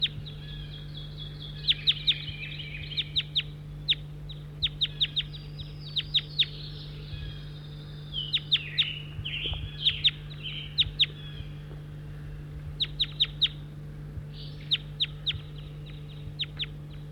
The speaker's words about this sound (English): Chitter now as the birds are together.